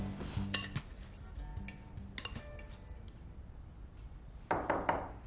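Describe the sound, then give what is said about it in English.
A spoon clinks and scrapes against a bowl of ice cream a few times at home as someone eats, fairly quiet, with short metallic taps spread out over a soft background and no talking. “Brooklyn starts to eat from a bowl of ice cream.”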